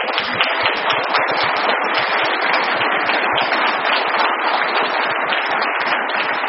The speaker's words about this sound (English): We'll see if they clap that loud when you wear skinny jeans the first time, okay?